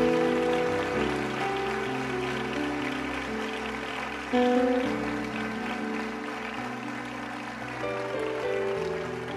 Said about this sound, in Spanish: Vengan al frente, anímenos con ese aplauso. Este es el día que va a cambiar sus vidas para siempre. Vamos, déselo fuerte a esas personas.